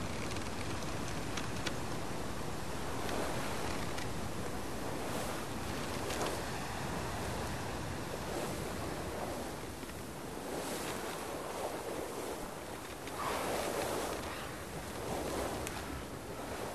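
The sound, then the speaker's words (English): Steady ocean waves on the open sea wash and surge continuously, with a broad rushing roar and occasional louder swells, blended with wind buffeting the microphone; no voices are present. “It leads you out of the lagoon and into the open sea.”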